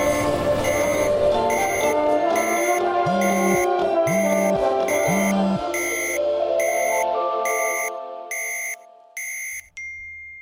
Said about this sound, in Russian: у всех людей вокруг начинает срабатывать такое треньканье по телефону